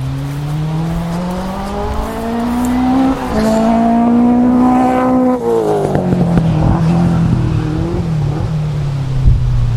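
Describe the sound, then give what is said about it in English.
A kit car going around a track on a windy, overcast, dry day: its engine drones loudly and steadily, its pitch rising as it accelerates, easing briefly, then climbing again before dropping as the car moves away. No one speaks. “a kit car going around the track.”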